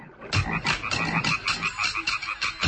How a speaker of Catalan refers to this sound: Si aneu a vora d'un llac i sentiu els cants de les granotes, potser teniu sort i sentiu també els ritmes del tam-tam màgic.